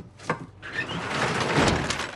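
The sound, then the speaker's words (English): A woman pulls a rope attached to the pull-down door at the back of a loaded truck, yanking it closed: a short clank, then a loud, steady rolling rattle and rumble for about two seconds as it slides down, with no voices. “She grabs a rope attached to the pull-down door.”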